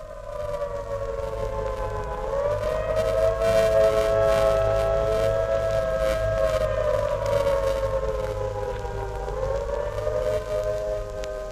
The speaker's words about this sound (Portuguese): As aflições começam sempre ao toque antipático das sereias, espécie de aviso dado às parcas para que tenham à mão a respectiva tesoura com que elas se entretenham a censurar a existência de cada um.